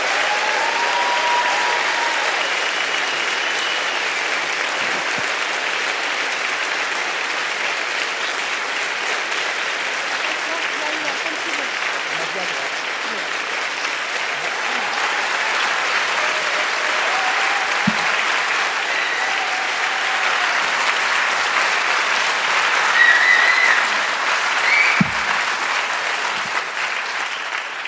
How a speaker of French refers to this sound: Merci d'accueillir Jérôme Garcin sous vos applaudissements.